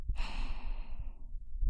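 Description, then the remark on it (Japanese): A long, soft exhale from an older-sister figure, breathed right up against the microphone to lull the listener to sleep, airy and hissy, trailing off gently into quiet, with a faint low rustle at the end. “お姉さんの吐息に包まれながら寝ちゃってね。”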